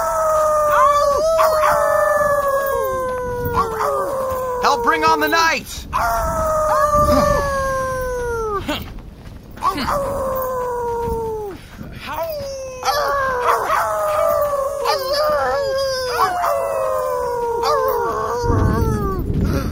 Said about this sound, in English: Sirius? Ether, Sirius is howling at the sunset.